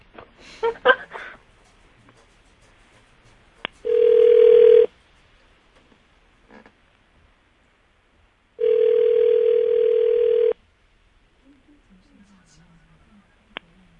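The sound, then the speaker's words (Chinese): A telephone line tone sounds twice while a call is placed to someone's partner: two loud, steady buzzing beeps separated by a few seconds of quiet, with brief talking at the start and faint sounds afterward. “好，我们现在打给你的”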